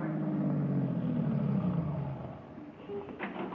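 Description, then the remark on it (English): A car engine rumbles loudly, its pitch dropping as the vehicle slows and pulls in, then settles to a quieter idle with a brief scrape near the end. “Nancy, what are you doing with our car?”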